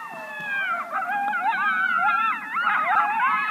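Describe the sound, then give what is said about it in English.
A pack of coyotes yips and howls together, several high wavering voices overlapping in a continuous, tangled chorus that stays fairly loud throughout, with no one speaking. “They're out there yipping and howling.”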